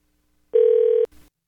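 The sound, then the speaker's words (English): A telephone line, as a call is placed, sounds a single steady electronic tone for about half a second, loud, then cuts off with a click and a brief burst of line noise. “So hang in the background while I get her on the phone here, okay?”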